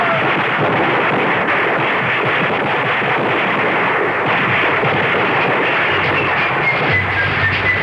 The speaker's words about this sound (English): escaped the hail of bullets, and he survived the Battle of Trenton